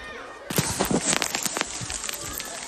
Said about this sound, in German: Oh, ich stehe hier gerade mitten im Wald. Vielleicht regnet. Es kommt sogar ein bisschen Hagelschauer runter. Es ist urselig und kalt